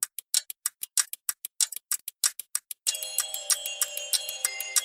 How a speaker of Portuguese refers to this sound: Tic-tac, tic-tac, o tempo é relativo.